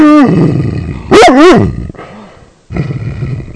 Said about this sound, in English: Your mom likes to hear Ranger bark.